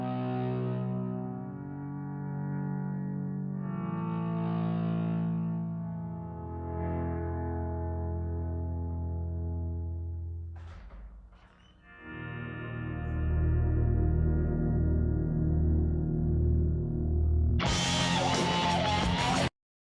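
A moody rock intro of slow, swelling guitar tones drenched in effects, building after a brief dip into a thick, heavily distorted wall of sound near the end. No one speaks.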